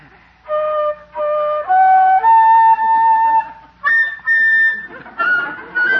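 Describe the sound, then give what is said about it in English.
A shrill, slightly squawky whistled rendition of the Blue Danube waltz: a string of held notes that step upward in pitch with short breaks between them, ending in a few wobbly, uneven higher notes. “Judge, you sound like a hungry seagull.”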